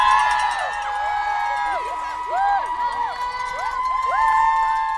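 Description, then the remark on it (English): A large crowd of race fans screams and cheers nonstop at the Wellesley College Scream Tunnel on Marathon Monday, with many high-pitched voices overlapping in rising and falling shrieks, loud, forming a continuous wall of excited noise. “Like the sounds from race fans at the Wellesley College Scream Tunnel.”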